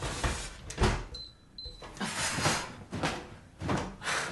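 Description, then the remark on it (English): An oven door is pulled open, with something burning inside and smoke drifting out, with a short, high squeak and several clattering metallic clunks spread over a few seconds, fairly loud, with no voices. “turns and opens the oven. Smoke drifts from it.”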